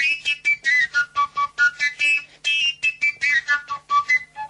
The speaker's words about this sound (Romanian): Tilincă.